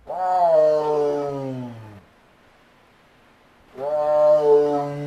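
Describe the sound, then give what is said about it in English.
A tiger at the Boise Zoo, standing outside in her snowy enclosure as closing time approaches, roars twice to signal she is ready for dinner. Each call is a long, loud, low bellow lasting about two seconds, separated by a brief silence, clear with no voices. “Acacia the tiger stands outside and lets everyone know she's ready for dinner time”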